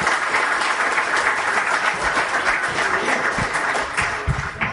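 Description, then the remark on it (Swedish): An audience applauds sidecar racers who raced here in 1982 and 1983, many hands clapping in a dense, continuous patter that stays loud and even throughout, with no voices standing out. “Så ge dem en varm applåd.”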